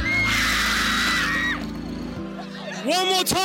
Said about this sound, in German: Inzwischen treffen sich in mehreren Londoner Parks Hunderte, Tausende Menschen für den kollektiven Schrei. Aber Vorsicht, hier wird wirklich geschrien wie am Spieß.